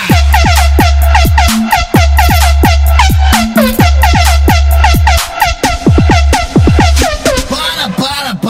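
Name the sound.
volvo truck air horn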